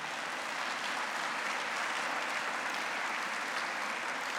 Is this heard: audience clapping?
yes